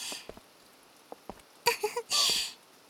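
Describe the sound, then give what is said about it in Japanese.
Rain patters on a favorite umbrella shared by two people on a rainy-day date, a soft steady hiss broken by scattered sharp drops, then a brief louder rush of rain near the end. “雨の日デートもなかなかいいでしょ。こうやってお気に入りの傘で君とあいあい傘できちゃうし”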